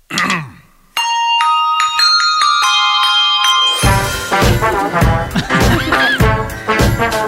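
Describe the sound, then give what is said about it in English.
Clear, ringing bell tones chime a short stepwise melody, each note sustaining into the next, before louder, busier remixed music with punchy rhythmic hits bursts in and takes over, in a Hershey's Kisses commercial. “It starts off with the bell, and then a little girl sticks her hand in the frame and takes one of the bells.”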